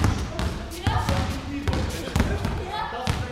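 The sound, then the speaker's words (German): Several basketballs thump irregularly on a hard floor as children and teenagers dribble them across an old gym in Berlin-Spandau, overlapping bounces echoing in the hall, with indistinct voices in the background. “Von einem Ende zum anderen treiben sie ihre Basketbälle übers Spielfeld, versuchen den Korb zu treffen.”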